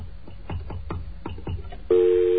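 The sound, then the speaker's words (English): A rapid series of short keypad tones is dialed over faint background noise as a call that failed to go through is tried again, followed by a steady, loud telephone call signal tone that sounds abruptly and continues to the end. “Okay, our call didn't go through for some reason, so let's try this again.”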